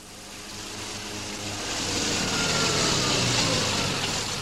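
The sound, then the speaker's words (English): A heavy lorry engine runs steadily with a low droning hum and broad rushing noise, growing slightly louder as it labours along. No one speaks. “The lorries bringing relief from Jewish Tel Aviv had to make the hazardous journey up through the gorges to Jerusalem, accompanied by guards and improvised armored cars.”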